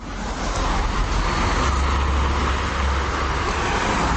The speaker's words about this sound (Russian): Что такое шумовой дискомфорт, большинство москвичей знают не понаслышке. Переполненные автомагистрали, многочисленные стройки и прочий городской шум отравляют жизнь жителям мегаполиса круглосуточно.